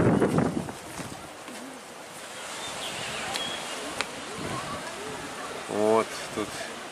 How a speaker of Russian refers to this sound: Так, давайте, друзья, мы пройдемся здесь вдоль этой стены. Тут ветер.